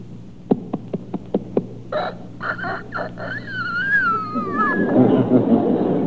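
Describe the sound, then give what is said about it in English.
Several sharp clicks, then a four-month-old rooster's crow: short raspy bursts leading into a thin, high, wavering call that glides up and down before trailing off into a noisy rasp. “You've got here The Life of a Rooster in four parts. 1 day, 4 months, a year, and 4 or 5 years old.”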